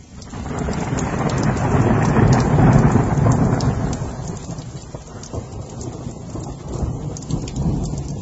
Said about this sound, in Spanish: Los días que llueve así, no hay forma de distinguir el ruido de fuera del que le resuena dentro.